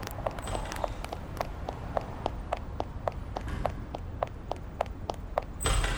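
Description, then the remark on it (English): Quick, evenly spaced footfalls of a man running back to an apartment, a steady brisk rhythm of sharp taps at moderate volume against a low background rumble, with no voices. “He's running back to the apartment. We're right behind you.”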